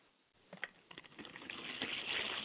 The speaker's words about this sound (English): I pour libation for my father's spirit, and I say, Ashe. I pour libation for Akamare, and I say, Ashe.